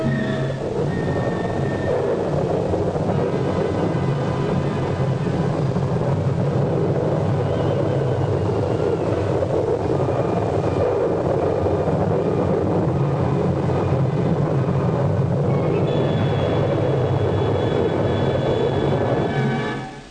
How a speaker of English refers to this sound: Minutes later, the tornado roared into the city.